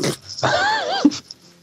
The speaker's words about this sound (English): I can't stop sneezing, so this might be a thing.